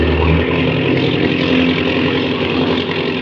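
An aircraft engine roars steadily at high revs with the throttle opened wide, a dense, buzzing drone with strong low harmonics that holds constant for a few seconds before easing slightly at the end.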